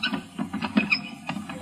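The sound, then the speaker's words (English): A spinning wheel turns steadily as pioneers spin thread for homespun garments, giving off a rhythmic series of soft creaks and squeaky clicks that repeat several times a second, fairly quiet, with no voices. “Pioneers spinning thread for homespun garments.”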